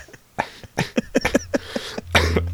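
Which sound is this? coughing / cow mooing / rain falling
coughing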